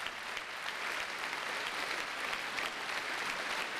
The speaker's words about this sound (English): Always a special occasion then to hear the very first performance of such a work, and it's gone down well here at the National Concert Hall in Dublin as Alan Smale returns to acknowledge the applause of the audience here.